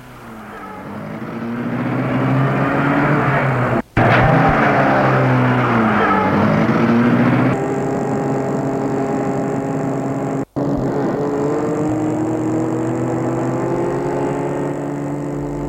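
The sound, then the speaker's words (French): A car engine is started by someone getting into the car, rising to a steady running drone, with pitch climbing and falling as it revs, then holding a constant hum; two brief cuts break the sound, and no one speaks. “Il entre dans la voiture pour la mettre en route.”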